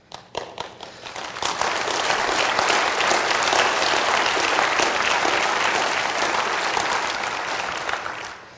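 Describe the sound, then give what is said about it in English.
An audience breaks into applause, starting with a few scattered claps that quickly swell into a steady, full roar of clapping that holds for several seconds before easing slightly at the end. “But disarmament isn't going to happen just because we clap.”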